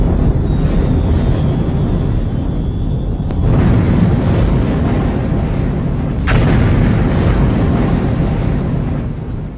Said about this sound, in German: Beeindruckende Berge explodieren wegen des vulkanischen Drucks unter ihnen. Es gibt keine Möglichkeit, ein solches Desaster abzuwenden.